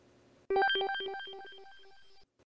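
A telephone rings with a bright electronic ringtone, a quick run of melodic beeping notes that sounds loud for about two seconds, then stops, with no one speaking.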